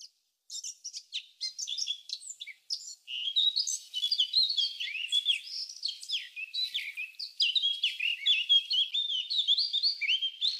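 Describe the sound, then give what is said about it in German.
Birds chirp and twitter continuously in a bright, high-pitched chorus, with rapid overlapping trills and short tweets filling the scene, no voices present. “Also wir haben Vogelgezwitscher gehört.”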